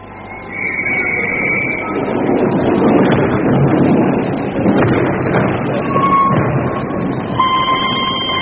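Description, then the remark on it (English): A train pulls away out of Paddington, its steady chugging rumble filling the scene while high whistle tones sound at the start and again near the end, loud with no voices. “As the train sped out of Paddington, I looked back at the tall, austere figure of Holmes gazing after us.”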